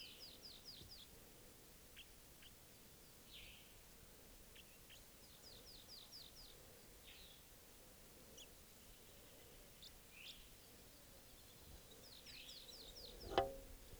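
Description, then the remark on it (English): A wild bird, probably a male, sings a soft song from up in a tree: short, high, rapid trilled phrases repeated every few seconds, with scattered thin chirps in between over a low steady background hum, and one brief thump near the end. “I'm doing a soft song. It's probably a male.”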